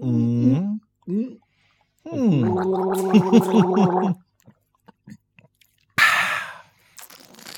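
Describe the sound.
Someone gargles a mouthful of liquid in a few voiced, bubbling bursts, the longest a sustained rattling gurgle, followed by scattered small wet sounds and a sharp, breathy exhale at the end.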